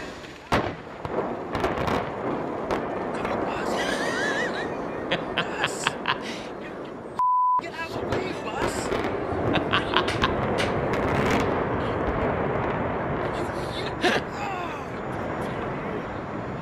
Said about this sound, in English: They're about to blow the dome. And then this happens.